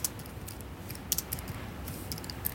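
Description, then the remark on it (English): Quick, irregular keyboard clicks tapping away, with bursts of several keystrokes and short pauses over a low background hum; no one speaks. “Sorry for all the typing.”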